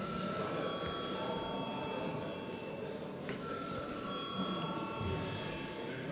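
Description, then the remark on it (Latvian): A parliament voting bell, called for before deputies vote on a bill in its third reading, rings steadily for several seconds, a bright, shrill electric tone that holds without a break over a low murmur of voices and shuffling in the chamber. “Lūdzu zvanu.”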